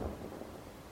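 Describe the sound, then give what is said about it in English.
A distant explosion heard as a deep, low rumbling boom that rolls on steadily for about a second with no sharp crack and no voices. “In the distance, I heard an explosion.”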